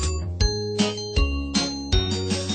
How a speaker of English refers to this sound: The bell on the bus goes ding, ding, ding, ding, ding, ding, ding, ding, ding. The bell on the bus goes ding, ding, ding all day long.